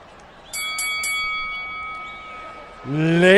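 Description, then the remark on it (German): A boxing ring bell clangs three times in quick succession, its bright metallic tone ringing on and slowly fading before a man's voice starts speaking loudly at the end. “Der Gong ertönt und die Legende beginnt.”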